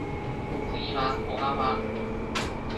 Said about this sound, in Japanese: お待たせいたしました。西武線ご利用くださいましてありがとうございます。この電車は国分寺行きです。